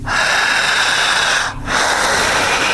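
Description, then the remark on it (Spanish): Loud, forceful breaths during a breathing exercise: a long harsh inhale-exhale, a brief pause, then another strong rushing breath, with no talking. “Poquito más fuerte. Esa. Jalando el aire.”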